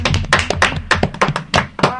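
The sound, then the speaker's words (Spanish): A group of children clap together in a burst of applause for a child who recited her own poem, a dense run of sharp, uneven claps over about two seconds, fairly loud, with a few young voices mixed in. “Pues entonces se merece un fuerte aplauso, ¿no, chicos?”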